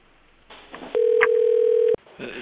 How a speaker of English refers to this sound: I'm sorry to stop. Does anybody know how to turn off that ringer? Yeah, if people could just mute their phones, that would help.